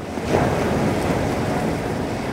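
A ship's hull driving through a thick, consolidated ice floe, breaking off chunks the size of couches and cars that turn over in the water: a steady, loud, rough roar of grinding and crunching with a heavy low rumble underneath, continuous throughout with no voices.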